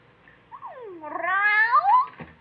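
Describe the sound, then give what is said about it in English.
A single drawn-out cat meow, rising then falling in pitch with a whiny, slightly strained tone, fairly loud with no talking. “Hey, what brings you over to the gym, kitty?”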